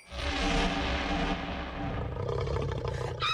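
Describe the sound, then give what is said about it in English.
A wolf lets out a loud, sustained roar, deep and rumbling with a harsh growling edge, rising sharply at the start and trailing off into a snarl. “What was that? Phew, big bad wolf.”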